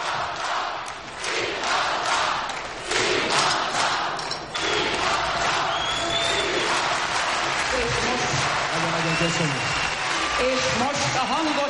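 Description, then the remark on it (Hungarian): A large arena crowd roars and cheers continuously, a dense wall of shouting and applause with bursts of louder yells, and voices calling out above the din. “Csak figyelni, hogy zúg az aréna, zúg, üvölt a közönség.”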